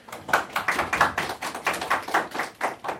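Applause in quick, steady rhythm, about a dozen sharp claps over three seconds at fairly even strength, with no talking over it.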